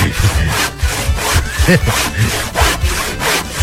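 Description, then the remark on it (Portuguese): A woman saws wood with a handsaw, rasping steadily in quick back-and-forth strokes, each stroke a bright, gritty scrape, loud with no voices. “É, da mulher do serrote. Olha ela aí, ó.”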